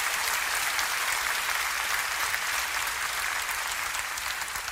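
Sustained applause offered to Jesus during a sermon, a dense, steady wash of many hands clapping at an even loudness throughout, with no speech over it.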